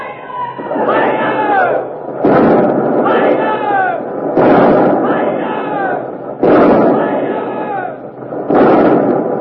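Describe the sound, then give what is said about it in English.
Heavy cannon fire from the warship Revenge's port guns, 60-pounders, 30s, 18s and 9s, booms out in a steady broadside series at the Armada, a blast roughly every two seconds, while a crowd of men shouts and cheers loudly throughout. “We haven't opened fire yet, but the Revenge is stopping, turning broadside, showing her port guns to the Armada, the 60-pounders, the 30s, the 18s, the 9s. You'll hear all of them in a moment.”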